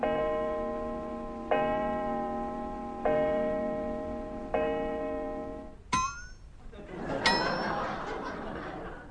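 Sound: clock chiming the hour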